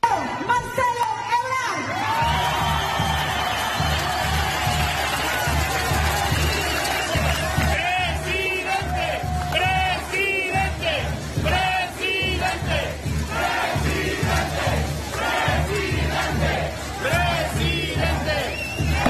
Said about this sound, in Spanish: Ya mismo en Durango estuvo Marcelo Ebrard el sábado y también le gritaron presidente.